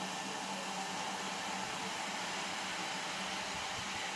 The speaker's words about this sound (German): Da standen alte Gepäckwagen mit Koffern, alte Schilder hingen an den Wänden und der Zug begann schon zu fauchen und zu zischen auf dem Gleis.